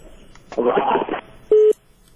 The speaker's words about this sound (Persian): خب فکر میکنم تلفن هم قطع شد.